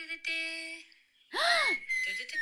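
A person whistles: a held steady note, then a loud swooping tone that arcs up and down before settling into a sustained high pitch. No talking.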